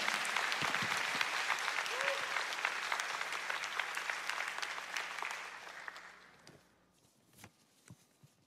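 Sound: audience applauding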